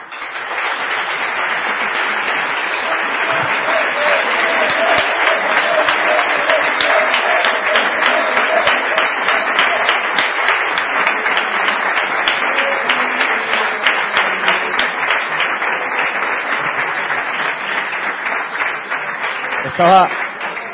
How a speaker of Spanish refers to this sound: Y ahora va a venir una asamblea donde yo voy a aprovechar aquí públicamente para dar un aplauso a ver si le hacemos pensar que se quede, porque yo creo que es el presidente que tiene que seguir con la asociación.